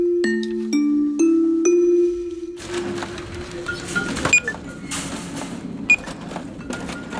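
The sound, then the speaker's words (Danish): A run of sharp electronic cash register beeps in quick succession gives way to a busy shop ambience, with metallic shopping baskets rattling and clattering, cash clinking, and a few more scattered beeps. “Ja, de fleste kan nok genkende den her slags bip-lyde fra for eksempel kasseapparater eller de metalliske indkøbskurve, klirrende kontanter.”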